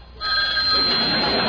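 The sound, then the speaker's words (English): A telephone rings with a bright, steady electronic trill that starts abruptly and continues loudly for a second and a half. “I think the phone is ringing.”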